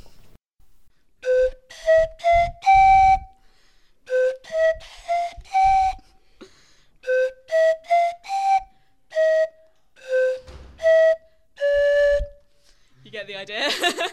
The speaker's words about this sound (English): And then the pan pipes.